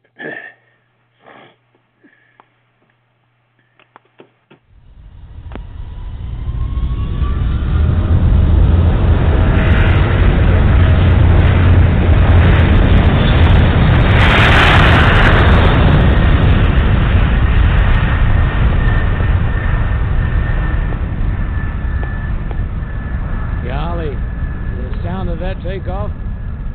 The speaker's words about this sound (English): Like I was right there on the runway. Beautiful noise of those jet engines on that 737-800.